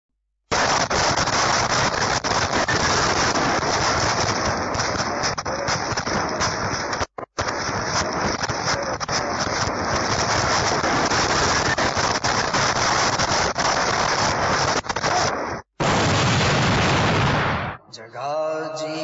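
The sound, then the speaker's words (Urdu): A loud, dense barrage of fireworks explosions crackles and booms almost nonstop as people set off fireworks, broken only by a couple of brief pauses, before a final short burst of blasts in a terrible explosion that caused several deaths; no one speaks. “ایک کلپ ہمارے پاس موجود ہے کہ جس میں وہ آتش بازی کر رہے تھے اور خوفناک دھماکہ ہوا جس سے کئی ہلاکتیں ہوئیں.”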